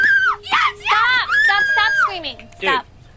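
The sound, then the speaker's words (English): A person screams in several loud, high-pitched bursts with strained, wavering tones, separated by brief gaps over about three seconds. “Screaming.”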